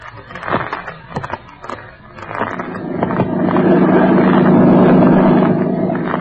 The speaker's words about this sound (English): I sit here in the boat as it skims over the lake toward the neighbors.